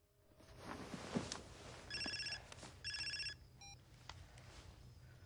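A telephone rings at home in two short, trilling bursts, fairly loud, over a steady low background rumble, followed by a faint electronic beep.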